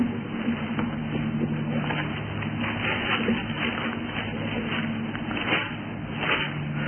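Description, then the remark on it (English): Soft, scattered rustling of Bible pages being turned in a church as people look up Romans chapter 6, a few crisp papery flutters rising over a steady low hum and broad background noise, with no one speaking. “I hear some rustling of the pages, but not a whole lot.”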